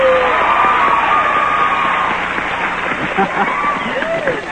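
A group of people cheers loudly for a contestant on a show, a dense wash of shouting and clapping with a few high whoops rising above it, holding steady and easing slightly toward the end.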